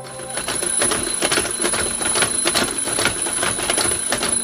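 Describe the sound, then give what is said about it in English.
An alarm clock rings continuously with a rapid, rattling mechanical pulse and a steady high whine on top, loud, with no voices. “First, I apologise for starting this podcast with the horribly familiar sound of an alarm clock and all the associations that entails.”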